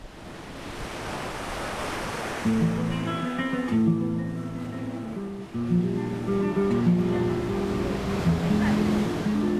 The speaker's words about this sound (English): Ipanema Beach, Rio de Janeiro. The sea rolls in, boats on the horizon, the sun is shining.